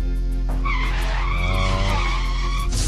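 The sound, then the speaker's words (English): Car tires skid with a loud, sustained screech that wavers in pitch for about three seconds as a car hits a man who walked out into the middle of the street, prominent, with no voices. “He walked out in the middle of the street, didn't look both ways. Got hit by a car.”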